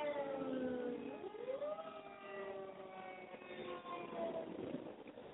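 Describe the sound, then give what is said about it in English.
An ambulance siren wails by, its tone sweeping upward and then holding steady, loud throughout, with a low rumble of traffic underneath. “And I'm sorry, guys, I've got an ambulance passing me. You're going to hear that shortly.”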